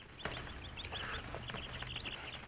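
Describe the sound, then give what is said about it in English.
Small caged birds chirp and twitter in quick, high, repeated peeps over a steady low hum of background noise, with no one speaking. The tiny birds are kept in many cages hanging from the ceiling of a private chamber, and one is being taken out by hand. “He reaches in and pulls out a tiny bird.”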